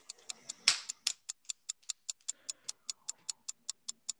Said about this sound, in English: Timer starts now.